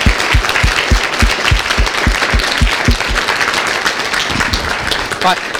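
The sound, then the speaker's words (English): A conference audience breaks into loud, sustained applause thanking the organising and audio team, a dense wash of clapping with a steady rhythmic thumping underneath and a few voices mixed in, continuing without a break. “Please, everyone, I'd like you to give a hand of applause and of thanks for these people.”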